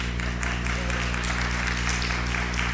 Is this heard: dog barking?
no